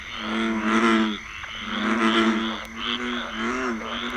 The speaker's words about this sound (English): Frogs are moaning, singing, croaking all night long. Moaning and peeping and croaking all night long. They're laying in the water just singing those froggy songs.